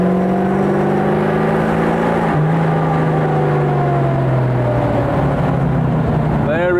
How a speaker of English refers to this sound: The supercharger boosting. Oh, gotta love this car. Not for the faint-hearted, I think is how, or the faint of disposition. This is a serious piece of machinery.